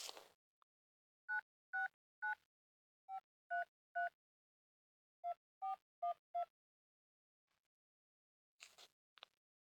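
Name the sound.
telephone keypad dialing tones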